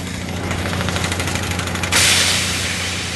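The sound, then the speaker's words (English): A loud, rapid mechanical hammering from a down-hole hammer drilling frozen ground pounds steadily over a low engine drone, then gives way to a harsh blast of hissing air, with no voices. “That's a down-hole hammer, actually drilling frozen ground.”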